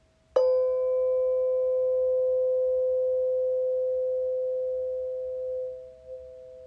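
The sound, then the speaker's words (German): A single steady tone starts abruptly and holds evenly for about five seconds before slowly fading, with a few faint higher overtones ringing above it. No voices. “Und wenn du diesem Klang jetzt lauschst, dann ist er die Erinnerung an das, was du bist. Du hörst den Ton.”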